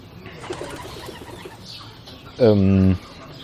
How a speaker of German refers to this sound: Oh. Eine Taube. Direkt über mir.